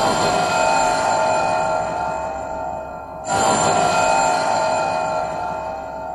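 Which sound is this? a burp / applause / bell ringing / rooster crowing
bell ringing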